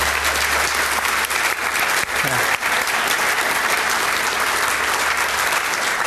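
Sustained applause from a large audience for a panel on stage at the close of an event, a dense, steady wash of clapping at even loudness for several seconds with no talking over it.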